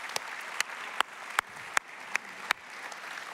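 An audience applauds steadily, a dense wash of clapping with a few sharper, louder claps popping out at a regular beat, about two or three per second, welcoming a newly appointed pastor. No one speaks.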